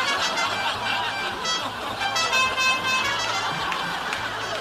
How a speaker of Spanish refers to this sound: Oye, invirtió en la pura bocina nomás en la camioneta